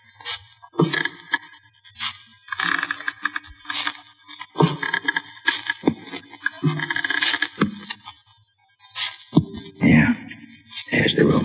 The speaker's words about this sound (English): Quiet. Here he comes now. These are the creakiest stairs I ever heard.